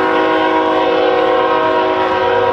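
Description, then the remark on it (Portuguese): A train horn blares in one long, steady, chord-like blast, loud, filling the whole moment with no voices present. “Das buzinas saiam melodias. E os comboios seriam muito mais coloridos.”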